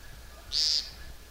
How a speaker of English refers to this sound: You can hear the whippoorwill, also still whippoorwilling.